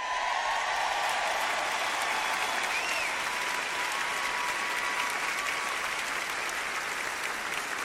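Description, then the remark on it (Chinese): A large audience applauds steadily for several seconds, a dense, continuous wash of clapping with faint cheers mixed in, fairly loud throughout without any clear break. “你们愿意为此而欢呼吗？”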